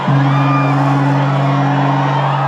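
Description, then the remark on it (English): A large crowd of some 3,000 swimmers whoops and shouts together in a dense, continuous roar as they rush into near-freezing water at dawn on the banks of the River Derwent, Tasmania, for a midwinter swim, with a steady low droning tone running underneath throughout. “As a flare blazes at dawn, the crowd rushes to the frigid water, wearing only expressions of joy and terror.”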